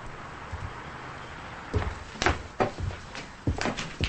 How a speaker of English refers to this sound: She opens the motel room door and looks around outside.